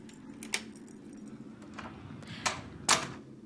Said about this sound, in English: Okay, so if you just wait a few moments, I have a key. And we'll be going in this door right here.